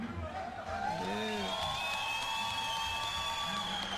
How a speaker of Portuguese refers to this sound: Vibração aqui da torcida de Palmeiras das Missões. Um bom público aqui no mezanino, né?